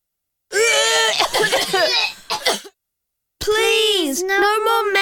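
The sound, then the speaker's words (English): Children's voices sputter through a burst of choked coughs after taking terrible-tasting medicine, then after a short pause break into a loud, sustained high-pitched wail of crying, prominent with no other sound. “The medicine is terrible. The children cough and cry.”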